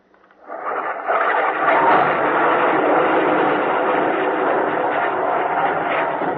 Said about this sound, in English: Shells from the Australian artillery went screaming over the ridge into the enemy positions. The ravines of the Owen Stanleys reverberated with violent explosions.